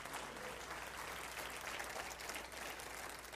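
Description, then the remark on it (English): An audience claps steadily, many hands blending into a dense, continuous patter of applause that holds at an even loudness throughout, with no voices standing out. “Come on, give another good clap offer, would you?”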